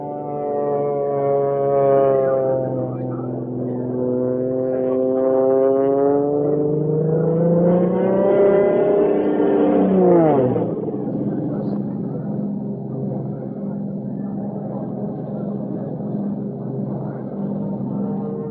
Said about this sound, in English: he'll do his best to stunt that plane all the way up to 10,000